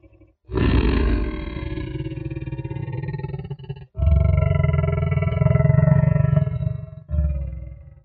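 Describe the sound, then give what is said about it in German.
A deep, rasping roar, a reconstruction of a T. rex roar, rumbles loudly for several seconds, breaks briefly, then resumes as a second long growling bellow with a short third burst at the end. “Sondern eher ein bisschen schnarrend.”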